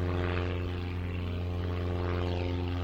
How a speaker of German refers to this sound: Kaum hast du den Gedanken an den Flughafen gefasst, landet direkt vor deiner Nase eine Mini-Ausgabe eines Flugzeugs. Wahrscheinlich bietet es neben dem Piloten nur für drei weitere Personen Platz, So klein ist es.